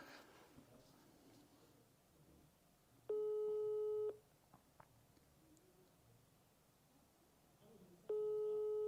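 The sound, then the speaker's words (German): A phone ringback tone on a call to a sales lead that goes unanswered: two steady, mid-pitched one-second beeps separated by a long pause, sounding alone over faint background noise. “Okay, zweimal, das hat jetzt zu lange geklingelt.”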